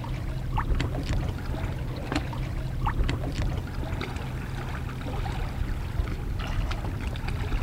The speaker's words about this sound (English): In the middle of the river Jamna in the north of Bangladesh, on a small wooden boat, I see three bright strips of colour, silver water, green rice growing on a chur, a big sandbank in the middle of the river, and then blue, blue sky.